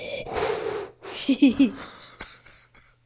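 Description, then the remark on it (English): Heavy, close-up breathing into a microphone: a long hissing breath followed by a raspy, wheezy exhale with a few short throaty catches, loud and right up against the mic. “Y'all breathe in the mic. Sorry. He's all breathing in the mic.”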